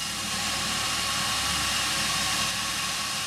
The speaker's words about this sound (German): So klingen 60 Kilo Kaffeebohnen, wenn sie in die Rösttrommel rauschen und dann kommt es auf die richtige Temperatur zum richtigen Zeitpunkt an.